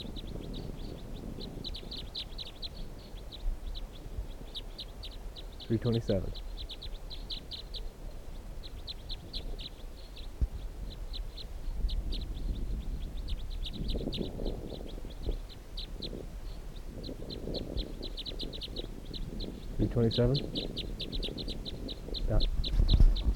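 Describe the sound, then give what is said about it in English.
A bird calls repeatedly, giving steady bursts of high, thin chirps throughout, with a few lower, harmonic call notes and soft murmuring sounds rising underneath now and then, at a site where 15 birds are in a net and others are calling from the trees. “So this bird, let's see, stop.”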